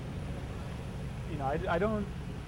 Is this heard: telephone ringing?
no